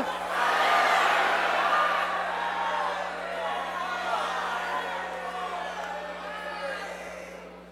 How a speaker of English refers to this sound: So when I say ready, set, go, you're going to yell out which one is false about me. Ready, set, go.